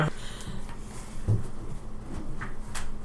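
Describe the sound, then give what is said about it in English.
A wagon door opens or shuts with a soft wooden knock and faint rattle, heard once against a quiet, low rumbling background. “You hear the door”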